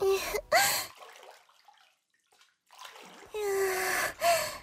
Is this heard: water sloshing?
yes